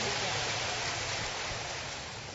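A crowd applauds steadily in praise of God's mercy, a dense and even wash of many hands clapping at once that holds for a couple of seconds and eases off slightly at the end. No one speaks over it.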